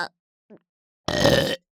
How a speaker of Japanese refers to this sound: うわ、いや、またゲップ出ちゃう。